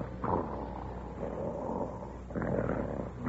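man snoring loudly

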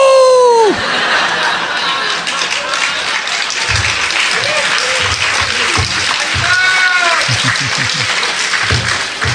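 audience clapping

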